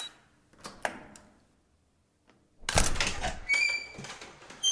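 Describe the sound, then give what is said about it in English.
A few soft electronic beeps and clicks from a key code keypad on a door, a brief pause, then a loud mechanical clunk as the door unlocks and swings open with rattling, scraping noise. “Has a key code on the door. Oh, please. Door. Open.”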